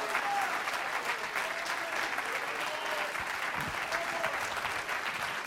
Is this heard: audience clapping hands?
yes